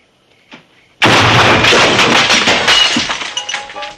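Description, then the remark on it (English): A section of rock wall in a priest's office gives way: after a faint tap, a sudden loud crash erupts into about three seconds of rumbling, crackling debris that gradually thins out. “A section of the rock wall in the room falls away in the priest's office, and he drops his radio and his glass of wine in shock.”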